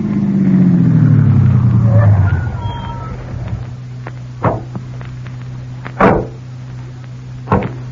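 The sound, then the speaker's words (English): A car engine rumbles loudly and winds down to a stop, then a low hum lingers as three sharp door thuds follow, spaced over the next few seconds, as people get out of the car. Nobody speaks. “They're getting out of the car now”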